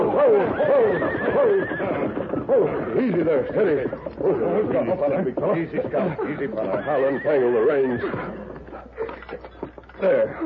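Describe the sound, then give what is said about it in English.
A frenzied team of horses that has just been shot at whinny shrilly and repeatedly in a Lone Ranger drama. Their frightened neighs rise and fall while a man speaks calmly over them. “I think a bullet singed one of the horses.”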